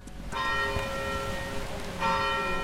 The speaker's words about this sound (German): Als die Glocken der Storkyrka auf der Stockholmer Altstadtinsel heute Morgen einen neuen Tag einläuteten, erwachte die schwedische Hauptstadt in einem neuen politischen Zeitalter.